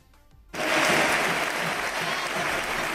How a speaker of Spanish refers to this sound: Esta era la ovación con la que despedían a Rodri, parecía una despedida, pero tal vez no.